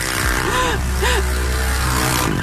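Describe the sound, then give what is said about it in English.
The engine of a modified Barbie dream car toy vehicle that goes 60 miles an hour drones steadily, swelling into two quick revs that rise and fall in pitch as it accelerates, loud and continuous with no voices. “It's a Barbie dream car. It goes 60 miles an hour.”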